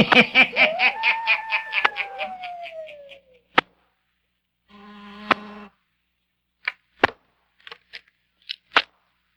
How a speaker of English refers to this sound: Someone dressed in a dark coat. Someone whose face is half hidden by the dark hat he wears. He waits a few seconds. He presses the buzzer again.